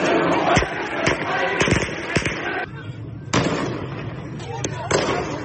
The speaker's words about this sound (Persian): این شعار که از تجمعات مردم در روز جمعه برداشته شده میگوید مردم سقوط نظام را میخواهند.